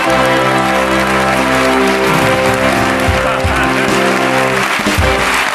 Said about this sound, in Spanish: Un motor de arranque para que arranque el programa.